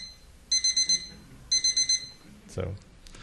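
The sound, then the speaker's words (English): A digital watch-clock alarm beeps at 2048 hertz, an octave lower, in two quick bursts of four short, shrill tones, each group separated by a brief pause, followed by a soft low thump near the end. “If you want to hear the watch clock alarm, this is an octave lower, and I have an alarm that sounds exactly like this one.”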